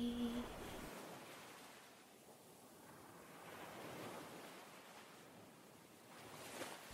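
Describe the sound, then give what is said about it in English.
Steady ocean surf washes onto the shore of an island in broad, rolling swells that rise and fall over several seconds, with a soft windy hiss throughout and no voices. “Did the waves actually bring me something nice this time?”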